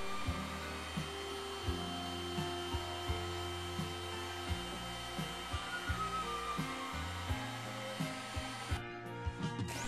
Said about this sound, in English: Once you've done all the cutting out and drilling, remove the paper from the board. A heat gun helps lift the paper.